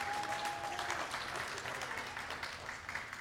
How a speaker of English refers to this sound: That's a praise God type of moment. And some of you are clapping. Go ahead, you can clap.